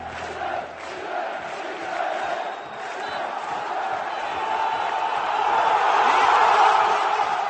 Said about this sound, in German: Die Zuschauer in Liberec feuerten ihre Mannschaft gerade noch einmal an, bevor der Schlusspfiff in der Begegnung zwischen Slovan Liberec und Titelverteidiger Viktoria Pilsen ertönte.